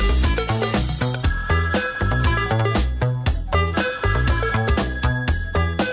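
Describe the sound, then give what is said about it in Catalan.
A telephone-like ringing tone sounds through a dense 1984 synth-pop track by a French group, its bright repeating trill riding over a synthesizer riff, pulsing bassline and steady beat at a loud, consistent level. “Parla d'un Quixot amb un riff de sintetitzador de fons i amb un telèfon pel mig.”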